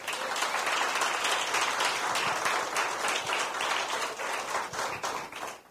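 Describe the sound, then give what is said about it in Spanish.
A crowd applauds steadily, many hands clapping in a dense, continuous roar of claps that stays loud and full throughout, with no talking. “Dese un aplauso.”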